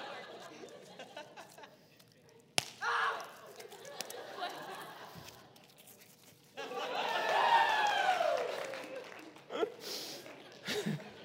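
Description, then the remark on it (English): Confetti cannons, bought as sermon props, fire at a church service with a sudden sharp pop, followed later by two more quick bursts, while an excited crowd chatters, gasps and cheers throughout. “I blew my whole month's sermon props budget on confetti cannons, all right?”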